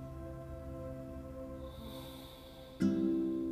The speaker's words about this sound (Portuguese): Vamos iniciar tomando uma respiração bem profunda.